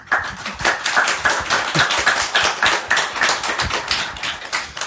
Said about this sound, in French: Voilà, bienvenue. Enchanté. Bienvenue, on peut les applaudir.